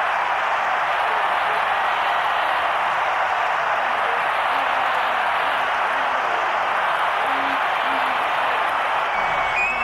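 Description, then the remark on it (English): A huge stadium crowd roars as the Minnesota Twins win baseball's world championship on Gene Larkin's hit scoring Gladden. It is a dense, steady wash of cheering that holds at a loud level for the whole stretch without breaking into distinct voices. “It's the world champion Minnesota Twins, and the crowd loves it.”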